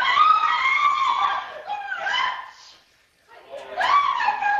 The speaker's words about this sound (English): What would you do if a bat flew into your family room? Governor Spencer Cox shared a video of his family's reaction this weekend. Here's a taste of the shocked screams.